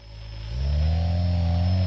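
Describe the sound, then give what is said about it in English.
The motors of a drone built from scratch in a hobbyist's workshop whir with a steady, layered mechanical hum, then rev up louder as the drone is tilted, pitch rising and the buzzing tones thickening and holding, with no voices. “So you see when I tilt it, you hear when I tilt it?”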